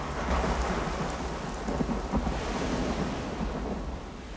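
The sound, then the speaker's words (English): Heavy rain pours down on a beach, lashing a plane that lists to its side on one wheel, in a steady, dense roar with low rumbling thunder underneath, loud and continuous throughout, with no voices. “Rain lashes the plane on the beach, listing to the side on its one wheel.”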